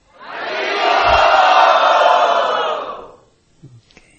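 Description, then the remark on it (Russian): A large crowd shouts the chant "Hari Bol" together in one loud, sustained collective cry that swells, holds for about three seconds, then fades, followed by a few faint scattered sounds. “Если вы действительно хотите это, то поднимите две руки и крикните «Хари Бол».”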